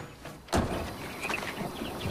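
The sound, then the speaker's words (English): A single solid thunk of a truck door closing as a woman gets out of her truck, sharp and fairly loud, followed by quiet outdoor ambience with faint high chirps in the background. “She gets out and walks towards him slowly with her arms crossed.”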